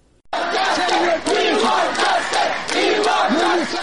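A crowd of Afghans protesting outside the UNHCR office in New Delhi, India, after the Taliban takeover and demanding refugee status, chants slogans in unison. Many voices shout loudly and steadily with rising and falling pitch, and the rhythmic chant continues without pause after a brief quiet start.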